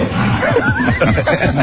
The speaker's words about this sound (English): Yes, there's my stomach growling.